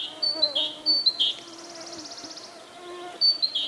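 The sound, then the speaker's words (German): A thin, whining buzz of a mosquito's pair of wings, vibrating about 1500 times per second, hovers steadily for about a second, fairly quiet, with sharp high chirps popping in before and after it. “0,7 Millisekunden, die Mücke, deren Flügelpaar rund 1500 Mal pro Sekunde vibriert.”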